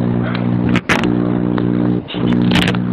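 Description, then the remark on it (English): A steady, loud low buzzing hum, like a phone vibrating, runs in long stretches broken by two short pauses, with some faint crackly scraping noise over it. “Can you hear it? You're vibrating.”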